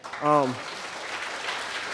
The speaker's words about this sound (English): I want you guys to please just give a round of applause to God and to the worship team.